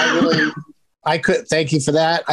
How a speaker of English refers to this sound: That was a cough button. That wasn't real. I pressed mute. I thought I pressed mute, but I guess I coughed over the mute.